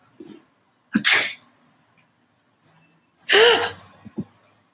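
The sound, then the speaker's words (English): A person imitates a sneeze twice at a cat to scare it away, each a sharp breathy burst after a short intake, loud, with a quiet pause between them and a small gasp at the start. “You have to pretend to sneeze on him.”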